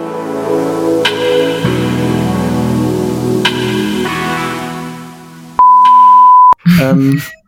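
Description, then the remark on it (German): A mobile phone gives one loud, steady electronic beep lasting about a second. It cuts in abruptly after a sustained tonal musical bed, and a brief voice follows. “Ist das dein Handy?”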